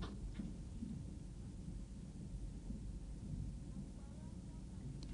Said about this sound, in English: Rain come de plenty.